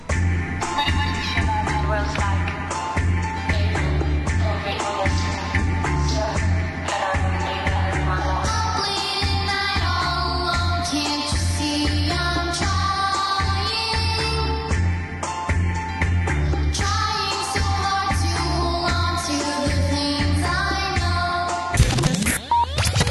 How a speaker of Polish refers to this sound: Słyszysz ten podkład? On jest nowiutki. Słyszałem, tam słyszałem takie... Tak, jest świst bomb, strzały karabinów.